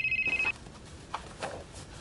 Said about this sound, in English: It's 2 a.m. Your friends are still out singing karaoke, but you're home early. Because you're expecting a call from your girlfriend in Germany who was supposed to call 4 hours ago. And then, the phone rings.